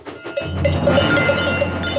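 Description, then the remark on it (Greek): Bells ring continuously in a bright, clanging jangle, heard from afar, with repeated metallic strikes over a steady low hum that starts about a third of a second in; no voices are heard. “Μετά ο Τζέιμς άκουσε από μακριά ήχο κουδουνιών.”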